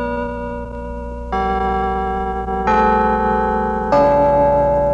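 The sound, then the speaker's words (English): Carillon bells chime 4 o'clock with four ringing strikes at an even, unhurried pace, each tone sustaining and overlapping the next. The bells are fairly loud and clear, with no voices. “It's 4 o'clock in Windland by the Liberty Bank, Carolyn Bells.”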